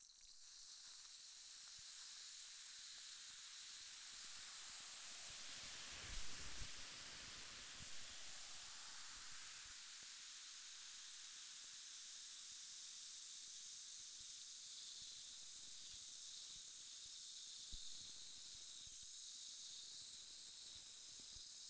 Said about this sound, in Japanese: まずはこっちの耳から炭酸水での洗浄を始めるよ。私の指先から炭酸を出してマスターの耳を洗浄するからね。シュワシュワと炭酸の音がするけど、そのままゆっくりくつろいでいてね。